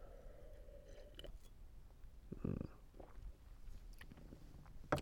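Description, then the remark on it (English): Quiet mouth sounds of someone sipping wine, with a soft slurp and swallow near the middle and small wet clicks around it, no talking. “Let me have another sip of this fine wine and wash down those dulcet tones.”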